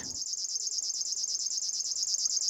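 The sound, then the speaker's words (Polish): A river warbler's insect-like reeling song buzzes continuously in a fast, even pulse, sounding much like a cricket, steady throughout with no voices. “No, sądząc po dźwięku, nie, to nie jest owad, świerszcz czy pasikonik. To strumieniówka.”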